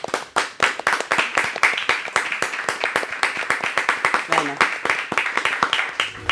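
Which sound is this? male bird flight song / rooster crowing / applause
applause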